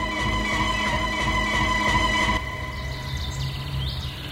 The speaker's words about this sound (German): Also hier haben wir jetzt die Idylle. Ne? Ja. Jetzt zwitschern natürlich die Vögel hier.